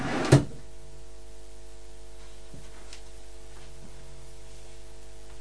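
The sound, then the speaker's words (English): A child's drawer holding pants and socks is pulled open with one sharp, loud knock, followed by a few faint clicks and rattles over a steady low electrical hum. No one speaks. “What's in the drawer? What's in your drawer?”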